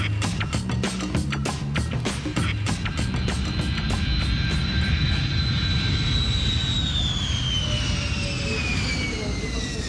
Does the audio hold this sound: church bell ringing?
no